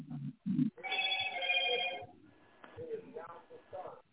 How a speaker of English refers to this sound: God damn, who got that old ass? That's that old ass, the teapot on the stove, goddamn alarm right there. When that little teapot is whistling and shit.